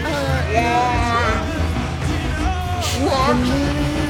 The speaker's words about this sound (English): Children scream.